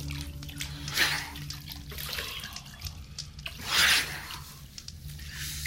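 Water sloshes and splashes in a bucket of water holding an extinguished ember, brought over to someone, with two louder surges about three seconds apart over a steady low hum; no one speaks.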